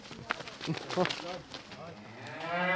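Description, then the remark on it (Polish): A Holstein cow being led outside lets out a long, rising moo that swells louder toward the end, following a few moments of muffled voices and shuffling farmyard sounds. “Idzie nasza krowa.”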